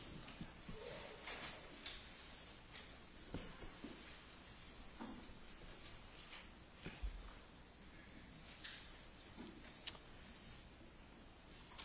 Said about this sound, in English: I'm glad to hear the rustling of the pages. That's encouraging, so it doesn't bother me to wait just a moment.